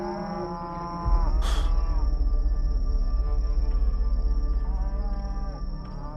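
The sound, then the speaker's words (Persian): Cattle mooing in long, low, drawn-out calls that overlap one another, over a steady rumbling background. A brief higher burst cuts through early on. “گاوای پیرس؟”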